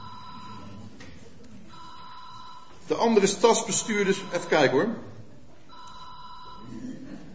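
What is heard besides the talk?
old telephone bell ringing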